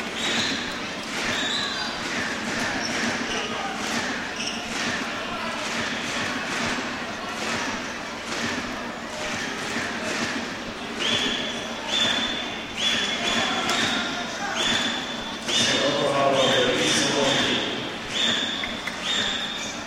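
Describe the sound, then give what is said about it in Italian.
A basketball is dribbled on a court by player Blake during a basketball game, its repeated bounces mixed into steady crowd noise, with high sneaker squeaks cutting in during the second half. “Blake tiene il palleggio da tre”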